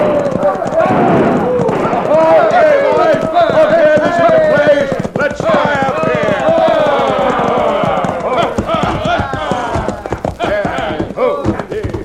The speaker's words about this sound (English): It all started when a crowd of hoodlums rode into Dos Rios, airing their lungs and triggering their guns.